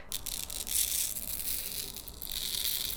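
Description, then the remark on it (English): Fine manganese oxide powder is dumped onto paper in a soft, continuous granular hiss with faint papery crinkles. The sound is quiet and lasts a few seconds with no talking. “I'll have to dump some of it on this paper here.”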